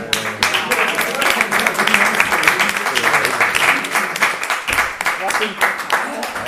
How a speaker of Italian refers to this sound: Bene, io farei un applauso.